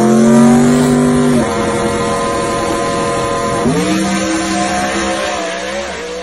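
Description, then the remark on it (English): A Coyote V8 engine roars loudly at high revs, drops off sharply, then climbs again into a second rev and holds a steady, harmonic drone. No one speaks. “There's just something about that coyote noise that will never be duplicated in any other platform.”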